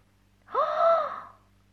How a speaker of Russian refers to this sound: Елена Прекрасная, как глянула на черевики, ахнула.